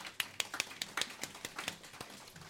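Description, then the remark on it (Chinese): A church audience applauds after an encouraging testimony, giving applause to the Heavenly Father: a loose scatter of sharp handclaps in an irregular rhythm, fairly quiet and sparse rather than a dense roar, with no voices over it. “所以我每次讲到这些这么激励的见证的时候，我都鼓励你啦，一起给你掌声，天父爸爸先啦。”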